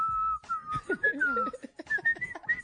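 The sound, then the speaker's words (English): Someone whistles a wavering, tuneful melody, the bright tone gliding up and down almost without pause for a few seconds, with a faint murmur of other sound underneath. “He whistles and he leaves his nasal.”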